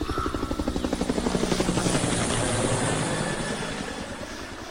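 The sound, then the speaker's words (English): An evacuation helicopter's rotor thumps in a steady, rapid pulse, growing fuller and louder as it approaches, with a broad engine roar building underneath. No voices are heard. “Our evac helicopter's on its way.”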